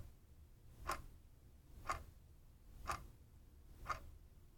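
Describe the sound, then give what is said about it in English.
A clock ticks steadily, four crisp clicks spaced about a second apart, fairly soft, over a faint low background hum with no voices. “Someone assembled your clock's pieces.”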